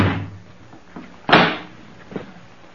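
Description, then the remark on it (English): A front door is opened with a low creak and rattle as someone looks outside after the bell rang, then pulled shut with a sharp, solid bang, followed by a softer latch clunk. No voices. “No one's at the door. I'll take a look outside.”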